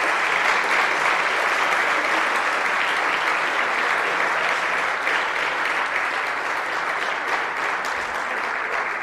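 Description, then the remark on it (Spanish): Loud, sustained applause from a large concert audience for a band's return at its last concert, a dense wash of clapping that holds steady for the full nine seconds with no voices standing out. “Fuerte aplauso para el regreso, ¿no?”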